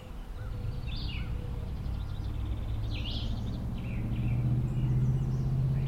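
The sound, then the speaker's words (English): Several birds, including doves, chirp and sing in overlapping bursts by the Turkey River in sunshine, layered over a steady low rumble like an idling engine or traffic. No one speaks. “Orchestra of birds.”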